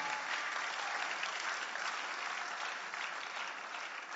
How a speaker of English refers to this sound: If you want to clap, you can clap to the glory of God.